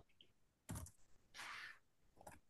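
A few quick bursts of computer keyboard typing, a sharp clack, a short flurry of keystrokes, then a final tap, quiet, with no one speaking, as a pick for a WWE Women's Championship match is typed in.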